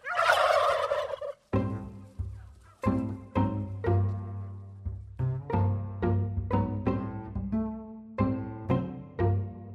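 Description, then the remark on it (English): Turkeys gobble loudly, a rapid chorus of warbling, rattling calls overlapping one another in repeated bursts, with a rough squawk at the start and no talking. “He says he just feels like it's his job to make sure there will always be plenty of different kinds of turkeys to go around.”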